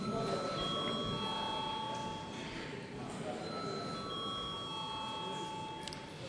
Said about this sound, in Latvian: Nav iebildumi. Tātad lūdzu zvanu.